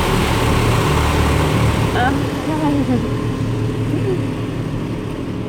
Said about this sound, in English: And a car just pulled up behind me.